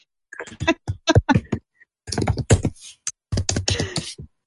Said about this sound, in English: You're typing away.